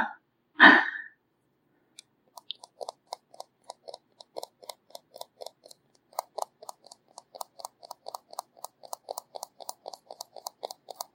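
A brief vocal sound opens, then light, bright taps on crystal follow in a quick irregular patter, faint at first and growing denser, like scattered droplets of rain.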